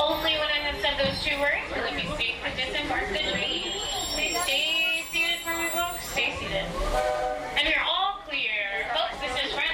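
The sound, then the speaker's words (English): A busy platform at Frontierland Station on the Walt Disney Railroad, with a crowd of overlapping voices as passengers disembark and board, set against the steady hiss of steam and the rumble of an idling train. “If you disembark here, please carry your strollers all the way off the platform before you unfold them.”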